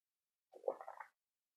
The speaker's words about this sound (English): I'm going to sip some water as you type stuff in.